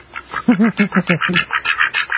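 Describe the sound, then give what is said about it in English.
A rapid run of nasal duck quacks, about eight in a row in a quick, steady rhythm, loud with a slightly processed sound-effect quality and no talking. “I can't help but giggle when I hear those ducks.”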